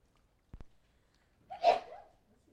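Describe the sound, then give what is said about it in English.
A single sneeze, a short breathy burst with a voiced cry at its peak, follows two faint clicks amid otherwise quiet with no talking. “Gesundheit.”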